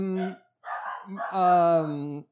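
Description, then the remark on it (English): A voice imitates a dog: a short yelp, a brief pause, then a long drawn-out howling bark with strong, steady tone. It is fairly loud, and nothing else is heard. “closing the studio door, barking dog.”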